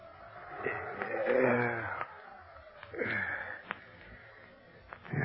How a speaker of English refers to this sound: And that doggone wind ain't exactly a lullaby. Kind of scary sounding.